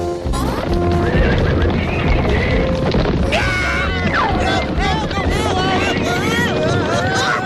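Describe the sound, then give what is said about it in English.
A wild horse neighs loudly with rising and falling whinnies while hooves clip-clop steadily underneath, amid a busy, noisy background with some voices. “26, Horse.”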